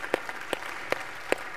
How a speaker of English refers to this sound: The big thing I want you to, you can clap. Praise God for what he's done.